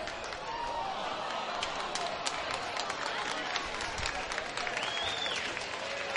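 A large crowd at a baseball game applauds and cheers steadily during a 0-2 count, a dense wash of clapping with scattered whistles and shouts rising above it, sustained throughout.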